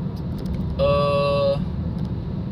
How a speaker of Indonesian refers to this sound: Sudah mulai macet jalanan. Gua sedikit banyak bersyukur sih ngelihat kemacetan ini.